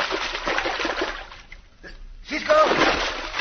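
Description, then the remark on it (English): Vigorous splashing as Pancho ducks his head under the water and pushes through a flooded passageway at the end of a rock slide, two noisy bursts separated by a short lull, with breathy gasping sounds mixed into the churning. “Duck your head under the water and push your way through.”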